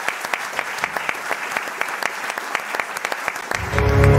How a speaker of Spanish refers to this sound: Así es que muchas gracias a quienes estaban, nos acompañaron ahí en YouTube, y un aplauso final de cierre de todo.